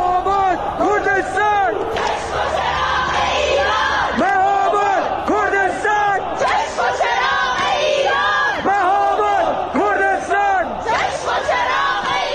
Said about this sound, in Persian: اینجا هم شهرک چیتگر تهرانه که اینجوری شعار میدن.